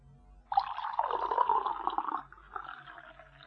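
Water is poured into an empty glass in one steady stream, a splashing, gurgling rush that begins abruptly, holds for about two seconds, then trails off into a softer trickle. No one speaks.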